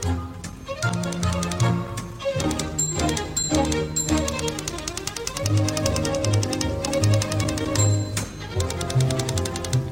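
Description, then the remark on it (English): A bright musical jingle built around typewriter sounds: crisp repeated key clacks and bell-like dings ride over a bouncy bass line and melody, steady and full throughout with no voices. “when you hear our musical typewriter, then you know that it is mailbag time.”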